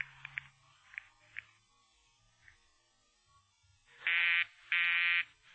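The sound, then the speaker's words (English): A telephone busy signal on a call placed through the operator to radio station KRNX, whose line is busy because its disc jockey takes phone requests: after a few faint, brief blips, two loud, steady buzzing tones sound with a short gap between them. No one speaks. “The line's busy, sir.”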